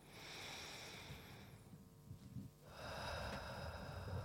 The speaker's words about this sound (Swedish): Okej, så för er som lyssnar nu så kan ni ta in några djupa andetag. Så bara andas in genom näsan och ut genom munnen.